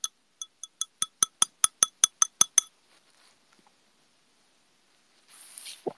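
A quick run of about a dozen bright glass clinks rings out in a steady, evenly spaced rhythm during a toast with vegetable juice, then stops, followed by silence and a short soft rustle at the end.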